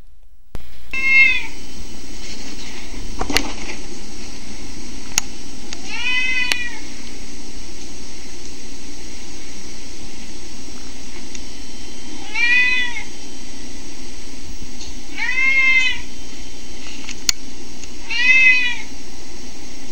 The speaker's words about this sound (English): That's him hopping up on the shelf where he likes to hop up and get his treats from. And then after he's up there and he hasn't gotten any treats, you'll hear him meowing, begging me to give him some treats. So enjoy. Here you have it. Simba Kitty.